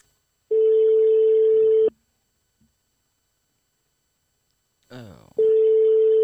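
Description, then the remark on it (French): An outgoing call's ringback tone on a call to the Petite Pomme shop: a steady, loud electronic purr lasting over a second, a long silent gap, then the tone starting again just after a brief vocal sound. “Le téléphone sonne.”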